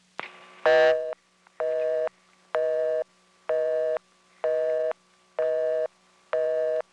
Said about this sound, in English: The NX1 seems to consider the busy signal the universal answer to everything.